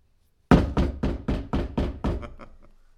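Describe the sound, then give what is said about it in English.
A rapid, forceful knock on a house door, demonstrating a bold door-to-door visitor's knock: about seven loud, evenly spaced raps in quick succession, trailing off into a few lighter taps, with no talking. “And when he knocked on a door, it wasn't a little timid little, it was.”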